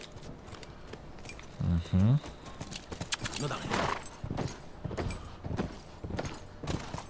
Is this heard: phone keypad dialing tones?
no